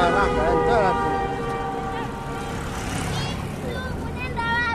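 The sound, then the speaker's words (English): Steady, loud road traffic rumble on a four-lane highway beside a school at dismissal time, with a huge truck carrying a 40-foot container going by, its deep engine drone holding throughout alongside wavering tonal whines and indistinct voices. “A huge truck with a 40-foot container going past, and there she goes.”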